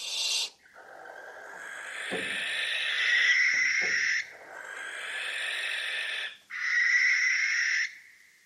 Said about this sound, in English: Don't worry though. If you hear a barn owl screeching late at night while you're wandering through a forest, it's probably not a banshee.